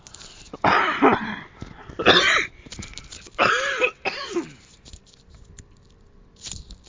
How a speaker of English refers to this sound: I just was about to cough.